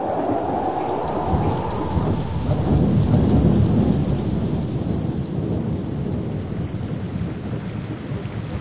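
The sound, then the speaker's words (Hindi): Steady, dense rain pours down with a low rumble of thunder rolling through the middle, swelling and then settling back into the constant hiss of the downpour. No voices. “ये चित्र में हमें देखा थे कि परमेश्वर 40 दिन बद्री से लगातार पानी बरसा लग।”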